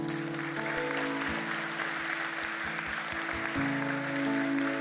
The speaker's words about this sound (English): Thank you, Lord. Why don't we just applaud these that...